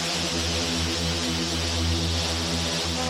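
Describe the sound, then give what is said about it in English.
A loud, thick Hoover synth drones steadily during a DJ set, with dense detuned harmonics and a swirling, phasing shimmer on top, holding one sustained low-heavy chord throughout with no voices. “Oh, that's a Hoover sound, isn't it?”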